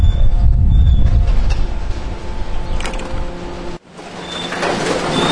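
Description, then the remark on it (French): A bag-opening machine at a waste sorting plant, which opens about 95% of the bags before they pass onto a belt, roars with a steady low rumble, metallic scraping and whining tones. The noise dips briefly near the end, then resumes. “Ici, on est dans le domaine de l'ouvreur de sacs. Hein. C'est une machine qui nous permet de nous ouvrir, on va dire, 95% des sacs.”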